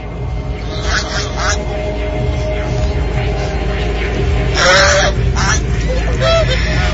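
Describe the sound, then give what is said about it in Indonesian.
A goose honks several times in short, nasal bursts outside near a bedroom window, over a steady low rumble of background noise, the loudest calls coming near the end. “Tiba-tiba, terdengar suara angsa dari arah luar dekat jendela kamarku itu.”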